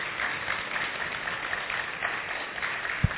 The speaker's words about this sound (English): And can we give a brother an applause?